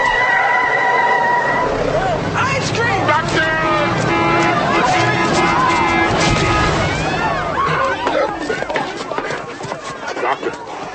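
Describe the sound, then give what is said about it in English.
A car's tires screech loudly as it skids to a stop on a street in front of a boy who ran out, followed by a jumble of excited voices and shouting. “You know no better than to run out in that street in front of a car.”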